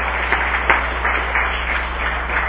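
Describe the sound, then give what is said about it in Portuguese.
Council members in a legislative chamber (plenary) applaud steadily one afternoon, a dense wash of many hands clapping at even loudness, with a few sharper individual claps standing out. No one speaks over it. “E eu peço a todos os senhores vereadores uma salva de palmas para esses heróis e heroínas que estão aqui no nosso plenário essa tarde.”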